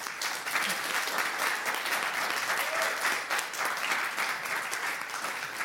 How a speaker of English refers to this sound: So thank you very much for this very interesting talk. Please, another warm welcome, a round of applause for the two.